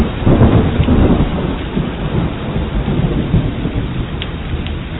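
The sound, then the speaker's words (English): Steady, heavy rain pours down while deep rolls of thunder rumble underneath, loud and continuous throughout, with no voices. “Rain came.”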